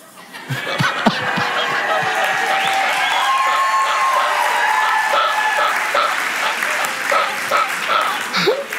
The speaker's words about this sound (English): It's almost like heaven's going, oh, they cheered, heaven cheered.